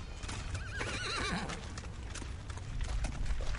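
The hooves of a horse named Timotije clop along at a steady walking pace as it is given commands, against a noisy outdoor background, while a horse lets out a wavering whinny partway through.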